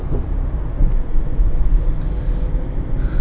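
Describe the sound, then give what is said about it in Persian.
Steady low rumble of a car in motion heard from inside the cabin, with continuous road and engine noise filling the low end and no voices. “باشه حتما، ولی الان چون دارم رانندگی میکنم نمیتونم زیاد تمرکز کنم.”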